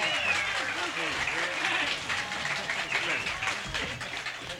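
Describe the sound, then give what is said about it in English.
A crowd applauds steadily for several seconds to welcome a bass fiddle player coming out to play with the band, a dense wash of clapping mixed with cheers and overlapping voices, loud and sustained throughout without a pause. “I don't mean to take your applause away”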